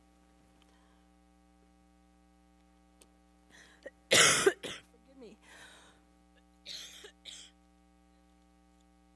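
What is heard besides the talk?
coughing fit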